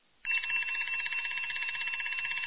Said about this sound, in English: And then you wake up to the damn alarm clock. Time for work.